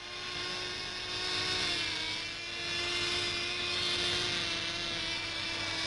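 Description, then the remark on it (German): A steady, high-pitched droning buzz of several small model aircraft engines flying in a team competition at an international model flying meeting in Basel in 1960, with layered whining tones that swell and ease slightly but never stop; no voices. “Im Mannschaftswettkampf belebt ein Hornissenschwarm den Himmel.”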